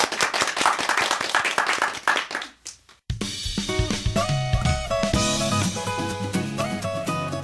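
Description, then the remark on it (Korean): An audience claps in a dense burst of applause before a mini lecture on the humanities, tapering off over about three seconds, then music with steady tones and a beat cuts in abruptly and carries on. “자, 박수를 청해 듣겠습니다.”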